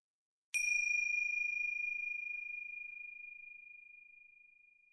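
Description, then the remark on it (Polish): A single meditation bell is struck once to begin a meditation exercise, its clear, high ringing tone sustaining and slowly fading over several seconds in otherwise quiet surroundings. “Zaczynamy, jak tylko usłyszysz dzwonek.”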